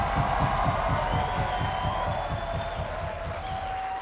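A crowd applauds a band with scattered cheers and whoops, a dense, rapid patter of clapping that holds at a fairly loud level for about four seconds before easing slightly.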